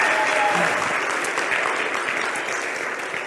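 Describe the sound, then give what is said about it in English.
An audience claps steadily for a participant, a dense wash of many hands that holds for a few seconds and starts to thin toward the end. “Give him a round of applause again.”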